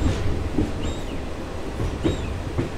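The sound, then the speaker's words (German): A train rolls slowly along the tracks, slower than walking pace, because a small black bear is walking on the tracks in front of the locomotive. A steady low rumble, soft rhythmic clunks and faint high metallic squeals come from the wheels, without any talking. “Plötzlich fährt der Zug noch langsamer, langsamer als Schritttempo.”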